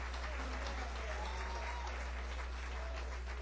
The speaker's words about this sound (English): Thank you very much. Let's get a nice round of applause.